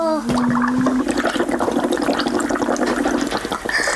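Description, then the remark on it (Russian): Loud bubbling gurgles as air is blown through a straw into a drink. The burbling continues steadily for a few seconds over a faint low hum. “Попробуй побулькать.”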